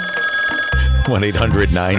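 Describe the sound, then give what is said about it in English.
A telephone rings loudly and steadily for a brief moment as a caller phones in to a morning radio talk show in Maine, its bright electronic tone fading as a man starts talking into the microphone. “I don't think I've ever been so happy to hear this telephone ring.”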